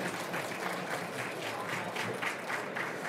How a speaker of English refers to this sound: So let's just give a round of applause to these three people who are brave enough to come up here and do this.